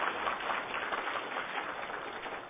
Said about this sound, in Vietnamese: Chúng ta vừa qua 4 kỳ giảng về ngũ uẩn. Nói theo tiếng đời thường đó là chúng ta survive, tức là chúng ta chinh phục được 4 buổi giảng ngũ uẩn. Xin quý vị một tràng pháo tay cho giảng sư.